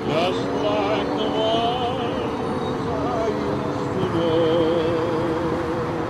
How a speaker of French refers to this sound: Non, ce n'est pas une fusée qui décolle, mais le bruit de fond de la circulation parisienne au feu vert, à laquelle fait concurrence le doux chant de Noël.